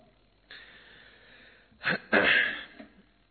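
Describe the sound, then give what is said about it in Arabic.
A single loud sneeze: a soft drawn-in breath, then a sharp catch and a forceful, explosive burst that quickly fades, with no talking around it. “يرحمكم الله يا سيدي”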